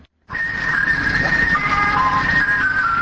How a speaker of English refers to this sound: On the outskirts of Sidayin, children are chasing after the ice cream truck as it bounces along the broken roads. For them, at least one summer pleasure has returned.